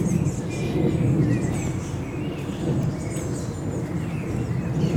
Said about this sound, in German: Nachdem ich euch noch ein bisschen mit diesen Naturgeräuschen allein lasse. Man hört gerade ein Flugzeug. Das ist natürlich kein Naturgeräusch, aber naja, mittlerweile schon.